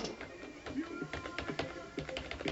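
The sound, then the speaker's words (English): Rapid clicking of mechanical keyboard keys, a busy run of sharp clacks in an irregular typing rhythm, fairly loud, with faint voices murmuring underneath; each key press gives a click-clack on the way down and on the way up. “So what you actually hear when you press on them is a click-clack on the way down and on the way up.”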